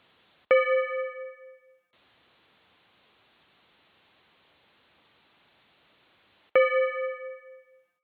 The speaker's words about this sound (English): And so when you hear the bell start, you're going to have 2 minutes to deliver your talk, and at the end I'll ring the bell and then you can discuss and give each other feedback.